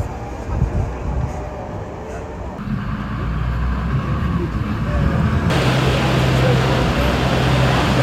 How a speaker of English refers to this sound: So yeah, and the boat's moving as well.